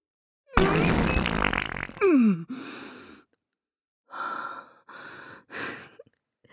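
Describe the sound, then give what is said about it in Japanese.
A long, wet, sputtering fart rips loudly inside a church sanctuary, followed by several shorter bursts separated by brief pauses, with no talking. “かなり水っぽい音でしたね。”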